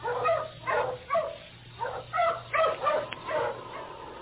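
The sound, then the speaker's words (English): A dog, King, barks repeatedly, about eight sharp barks in a quick, uneven rhythm, fairly clear, over a faint steady low hum with no talking, at a cabin door on the outskirts of Dawson in the Yukon. “Sergeant Preston, with his dog King at his side, knocked at the door of Jim Crane's cabin on the outskirts of Dawson.”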